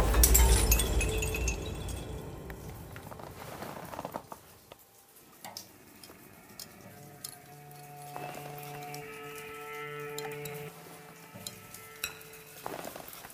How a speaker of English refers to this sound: And if you've ever spent time trying to sleep in a tent, lying on a glacier, it makes all sorts of booms and echoes and funny noises, and you think you're about to fall down a crevasse all the time.